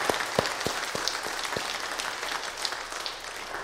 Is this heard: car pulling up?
no